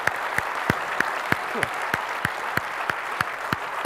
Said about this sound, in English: Last thing I want to do is our teams are probably going to be watching this video whenever it gets posted online. So do them a favor and give them a round of applause, because they've worked really hard on this stuff, okay?